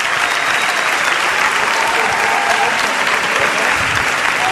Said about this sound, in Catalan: En fi, escolteu, per fora aplaudiment per tots ells.